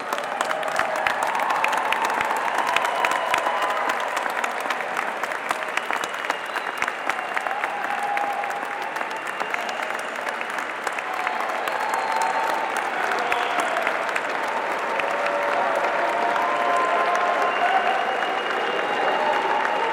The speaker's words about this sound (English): Congratulations, graduates, to all of your achievements. Will you all please rise and join me in another round of applause for these graduates?